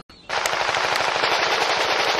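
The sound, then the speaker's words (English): Rapid, continuous automatic gunfire from a first-person shooter video game, a loud, dense rattle of shots in a steady fast rhythm that kicks in abruptly after a brief quiet moment, with no talking. “Eating snacks and playing first-person shooters with your bros.”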